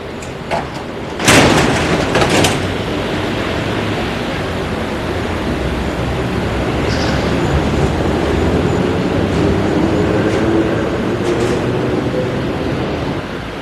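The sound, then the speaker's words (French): A Paris metro train rumbles along steadily with a loud, continuous roar, a few sharp clanks and rattles near the start, then an even, droning rush of wheels on track with no one talking. “Il s'éloigne des Champs-Élysées et prend le métro.”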